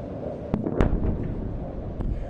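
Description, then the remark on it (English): Several sharp blasts ring out over a constant low rumble, two close together early and another a second later, explosions with scattered gunfire cracks as missiles fall into Gaza on a Tuesday night while Israeli forces battle Hamas. “Missiles could be seen falling into Gaza on Tuesday night with explosions and occasional gunfire as the Israelis continue to battle Hamas.”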